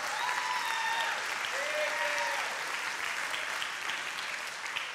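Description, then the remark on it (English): A church audience applauds a church member, steady dense clapping filling the room for the full five seconds, with a few brief voices or cheers rising over the clapping near the start before it tapers slightly. “and I don't want to embarrass him or anything, but maybe you should clap for him, you know.”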